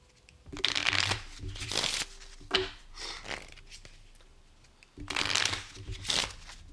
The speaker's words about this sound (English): So I'm going to shuffle. We are going to deal cards. And on a face card, we are going to draw for an encounter.